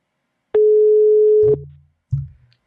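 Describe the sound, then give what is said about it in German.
A single steady, mid-pitched telephone ringing tone sounds for about a second on an outgoing call placed from a laptop to the Böhme-Zeitung newspaper, followed by two dull low thumps like a handset being picked up. “Bei der Böhme-Zeitung lässt man zweimal klingeln.”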